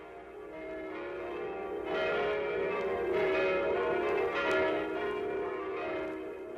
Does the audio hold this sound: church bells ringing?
yes